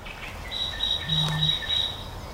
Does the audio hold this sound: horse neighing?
no